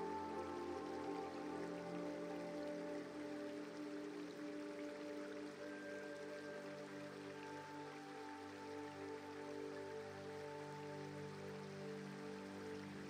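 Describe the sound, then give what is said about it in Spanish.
A steady, soft rush of flowing river water runs continuously in a natural setting, with a gentle watery hiss and faint sustained tones underneath; no voices. “Echas a andar a orillas del relajante río.”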